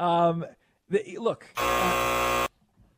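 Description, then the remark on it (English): A loud, harsh game show buzzer blares steadily for about a second, right after a short tonal note and a brief burst of someone talking. “Boy, it's amazing what gets the ding and what gets the buzzer around here, huh?”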